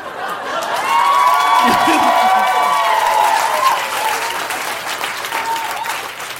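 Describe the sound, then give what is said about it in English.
Sustained applause from a crowd, dense steady clapping mixed with cheering voices that swell into a loud roar and then hold for several seconds. “I flash a smile, and the clapping increases until finally there is a roar, and everyone ascends off of their seats and straightens”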